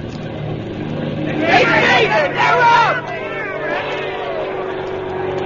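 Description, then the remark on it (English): An early propeller airplane engine drones steadily at takeoff for Lieutenant Lahm's flight at Fort Myer, a low continuous hum running throughout, while a crowd's voices and shouts rise over it partway through. “How's the engine sound? Purring like a kitten, sir.”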